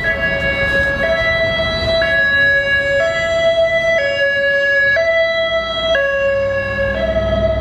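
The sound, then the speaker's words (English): A loud ambulance siren behind the speaker alternates between two tones about once a second, steady throughout, over a low rumble of road traffic with no one talking. “There's an ambulance behind me.”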